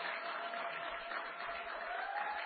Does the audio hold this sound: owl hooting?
no